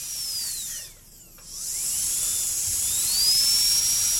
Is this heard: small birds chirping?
no